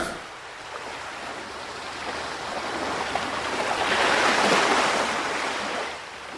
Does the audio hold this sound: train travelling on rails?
no